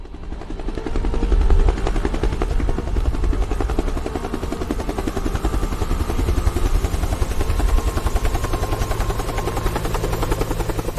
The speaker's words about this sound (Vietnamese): Biết được tin máy bay trực thăng đậu trên nóc của tòa đại sứ Mỹ đưa người ra để thất hạm đội, hay hoặc là các căn cứ của Mỹ ở ngoài những cái đảo cách xa Việt Nam,